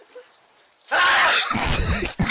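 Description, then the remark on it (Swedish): A very loud, explosive sneeze from a father bursts out of near silence, a harsh, hissing blast that stretches over more than a second with a brief catch partway through. “Alltså, det är ju bra tryck i nysen liksom.”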